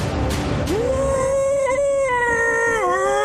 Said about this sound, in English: This thing is terrifying. I mean, it's pretty scary, and it just lets out an incredible roar.